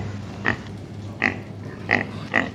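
A pig oinks four times in short, evenly spaced grunts over a steady low hum, sounding slightly electronic, played by a sound device on a sausage package when its button is pressed, signalling that it contains pork.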